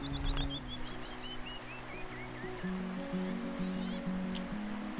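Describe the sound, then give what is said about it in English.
Steady rushing of river water tumbling over a shallow riffle at the mouth of Indian Creek Canyon at about 6:30 under pink clouds, continuous throughout, with a descending series of bird chirps early on and low droning tones beneath. “This is the riffle at Indian Creek Canyon, right at the mouth of it.”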